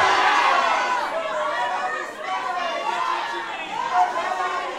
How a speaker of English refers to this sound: All right, I'm gonna tune, and then this is the part where I ask you a question, and you all yell a bunch of different shit at me, and I don't understand any of it. Ready? What songs do you want to hear?